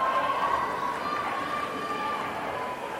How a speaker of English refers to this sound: And the crowd that you can hear in the background, a great crowd here for Bemidji.